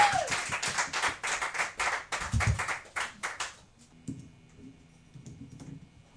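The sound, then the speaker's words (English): A small audience claps in a quick, fairly steady burst of sharp hand slaps for a few seconds, then the applause stops and only faint low background noise remains. “Yeah, everyone clap.”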